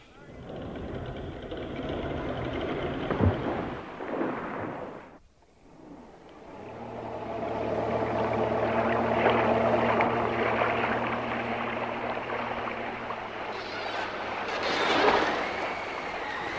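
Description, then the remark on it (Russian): Heavy ocean surf roars loud in a dense, continuous wash of waves, briefly dropping away to a lull before surging back, with a low steady drone running underneath; strong ocean surf beyond a calm bay, too rough to land on the shore. “Обратите внимание, насколько было спокойно в этой прекрасной бухте, настолько сильные волнения в океане. Какой прибой сильный.”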